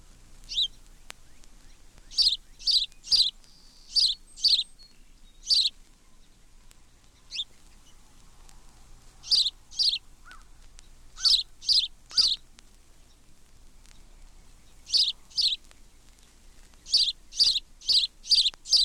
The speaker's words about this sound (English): House sparrow.